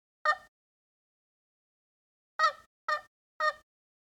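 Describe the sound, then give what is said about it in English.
Four soft turkey yelps demonstrating a tree call used in turkey hunting, one alone and then a quick run of three evenly spaced notes after a pause. Each is short, nasal and fairly quiet, with no talking. “But a tree call is just, you know, some really, really soft yelps, like a, even just a couple of them.”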